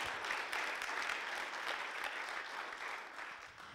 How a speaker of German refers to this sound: Yes, Applaus.